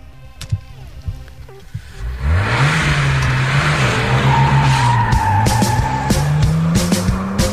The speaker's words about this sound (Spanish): Perquè la sintonia, m'agradaria que l'escoltés una miqueta. La sintonia, sabeu que arrenquen uns motors, un motor d'un cotxe.